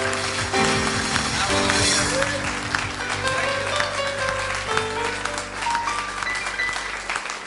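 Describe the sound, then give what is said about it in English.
An audience at a morning church service claps hands in praise of the Lord, a dense, sustained burst of applause over organ or keyboard chords, loud and steady throughout with no one speaking. “Give the Lord a hand clap of praise this morning.”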